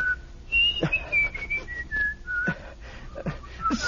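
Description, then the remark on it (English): Someone whistles a lilting melody, clear pure notes gliding between pitches in a steady tune, with a few soft knocks and rustles underneath. “stop whistling that infernal tune.”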